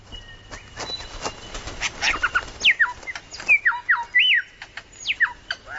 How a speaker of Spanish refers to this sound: Con el tamaño de un faisán, es una de las mayores aves cantoras del planeta. Para desplegar adecuadamente su espectacular plumaje, construye un escenario de casi un metro de diámetro.